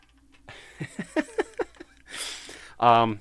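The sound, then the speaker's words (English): A single loud cat meow sounds near the end, following a string of short, soft vocal chirps and a brief breathy hiss. “I have a cat meowing at me right now, and I don't know if you can hear that.”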